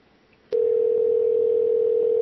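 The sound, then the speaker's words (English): A steady, loud electronic telephone tone cuts in abruptly after a brief quiet moment and holds unbroken at one pitch until the end, like a line ringing while waiting for an answer. “Holy shit, answer your fucking phone.”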